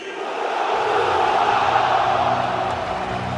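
A large audience applauds goalkeeper Gianluigi Donnarumma, number 50, as he is presented, a dense, steady wash of clapping mixed with crowd roar that swells in after a brief moment and stays loud throughout, with no speech over it.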